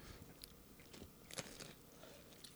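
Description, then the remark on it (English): A quiet bite into crunchy margarita flatbread topped with balsamic vinaigrette, followed by a few crisp crackling crunches as it's chewed, with no talking. “Did you hear that crunch?”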